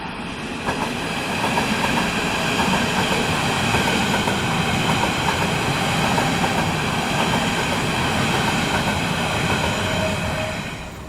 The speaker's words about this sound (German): Wir gehen jetzt hier über eine Brücke rüber und nehmen jetzt erstmal die S-Bahn auf.